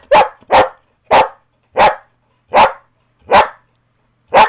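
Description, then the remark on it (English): A female dog barks loudly on command to tell her age of eight, a string of about seven single barks spaced evenly with short pauses between them, with no one talking over it. “So she's eight.”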